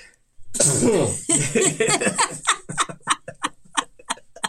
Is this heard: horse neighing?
no